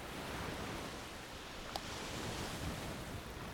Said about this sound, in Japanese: 引いては寄せる波の音